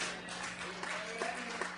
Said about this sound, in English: Well, people clapping your hands in church. Oh, clap your hands, all ye people. That's in the book. The Bible says, clap your hands, all ye people.